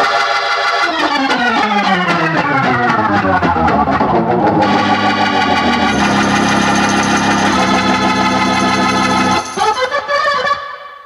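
A Hammond B3 electronic organ, a famous keyboard popularized in the 1970s, plays loud, sustained chords, opening with a long downward sweeping glide, then holding steady tones before a brief rising flourish at the end. No voices.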